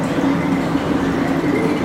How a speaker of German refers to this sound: Überall blubbert und kluckert der neue Wein.